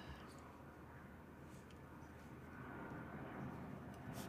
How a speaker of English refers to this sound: I mean, I got another plane. We'll take the time to think.